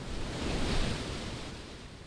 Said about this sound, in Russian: Никто не смел приблизиться к берегу, а кто приближался, того подхватывали и уносили морские волны.